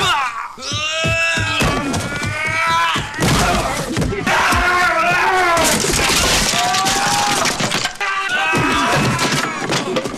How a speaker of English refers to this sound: So I made a supercut of just the screaming sounds that they do, which is basically Jean-Claude Van Damme screaming over top of Jean-Claude Van Damme, and here we go.